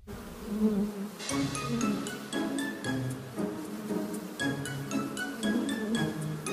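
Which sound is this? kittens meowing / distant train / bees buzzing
bees buzzing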